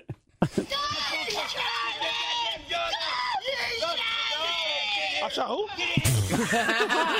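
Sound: person screaming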